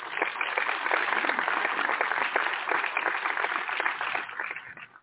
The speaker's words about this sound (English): I'm going to applaud that one.